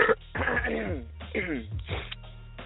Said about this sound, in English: Excuse me, I'm still over here coughing on my lungs.